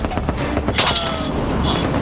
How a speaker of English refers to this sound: But we're still under fire.